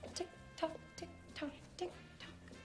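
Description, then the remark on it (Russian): A steady clock tick repeats about twice a second, crisp and even, over a faint sustained tonal hum like a tense countdown cue, timing a ten-second answer to a question. “Тик-так, тик-так, тик-так.”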